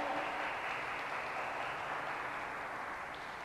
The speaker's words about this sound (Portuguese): Dê uma linda salva de palmas para Jesus. Aleluia!